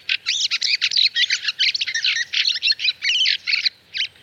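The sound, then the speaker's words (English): A fieldfare, a large, colourful thrush, chatters in a rapid, continuous run of harsh, chacking calls, fairly loud, with no voices and only a faint low background. “As the swallows arriving in our land heralds the coming of summer, the sound of the field fair on our shores marks the official start of winter.”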